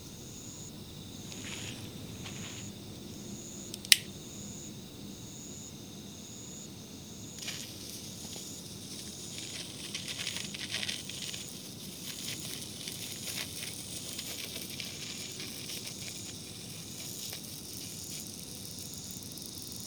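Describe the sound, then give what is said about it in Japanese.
A senko hanabi sparkler hisses steadily while fine, irregular crackles spit and patter through it, growing busier partway through, with one sharp snap early on. No voices. “お、線香花火。次、これやろう。”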